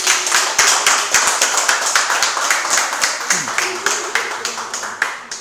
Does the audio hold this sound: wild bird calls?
no